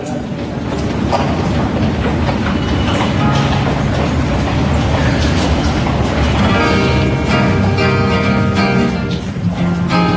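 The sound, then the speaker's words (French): An RER commuter train rumbles along the rails, loud, with steady clattering and a metallic squeal rising toward the end; faint voices may sit beneath the noise. “c'est le RER jusqu'à la mer”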